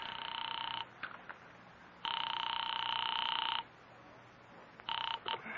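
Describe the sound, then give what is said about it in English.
A telephone line rings through to North Tacoloma 3 in long, steady electronic bursts separated by short pauses, with a few brief clicks between rings; fairly loud and clear, with no voices. “Sam, boy, I am actually ringing North Tacoloma 3.”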